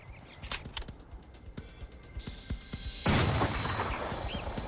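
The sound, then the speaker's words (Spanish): Sawed-off shotgun blasts, fired by Jackson into the back of a fleeing officer, ring out in an irregular volley of sharp cracks, followed by a louder, sustained burst of noise with no talking. “Jackson lo persiguió disparándole en la espalda con una escopeta recortada.”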